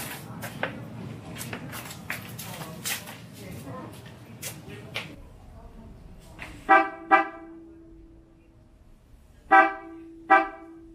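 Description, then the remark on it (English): A Mitsuba Dolce 3 car horn fitted on a Nissan Terra, in a sound check in regular mode, gives two short, bright honks, then two more a few seconds later; each blast is loud and rich in harmonics. Someone talks briefly before the honking starts. “So this is a sound check for the Mitsuba Dolce 3 on the Nissan Terra. So the first one will be the regular, and then I'll flick the switch with the echo function, so you'll notice the difference.”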